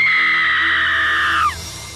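A woman lets out a long, piercing scream, held at a steady high pitch for about a second and a half before breaking off and sliding downward. Loud and alone.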